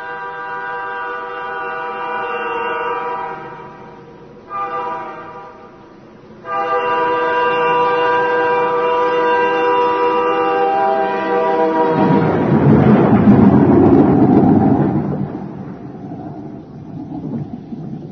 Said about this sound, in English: Storm.